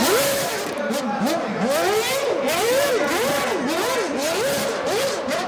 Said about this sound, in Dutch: Er was een launch event door Red Bull Racing en Mercedes Formule 1 team. Max Verstappen was er niet bij, maar Perez wel. En die ging even met zijn V8, vroeger hadden ze V8's nog, ging even de strip op met de auto.